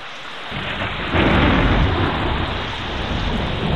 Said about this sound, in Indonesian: Adik-adik, mari kita berteduh di balai desa itu. Hujan semakin deras.